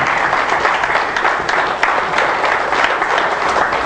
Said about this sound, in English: Let us welcome those who will be watching by internet today with a wonderful hand of applause in his house.